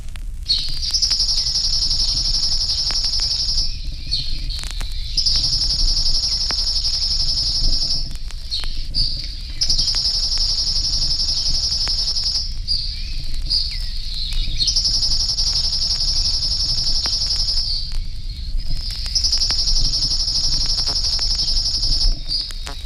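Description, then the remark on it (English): A chipping sparrow sings its simple, dry, even-pitched trill, repeated about five times in long rattling bursts separated by short pauses, clear over a low background hiss. “The chipping has only a simple trill.”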